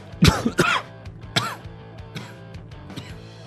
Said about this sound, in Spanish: Perdón. Y bueno, pues después de este ataque de tos del que parece que me he repuesto, aunque no descarto una recaída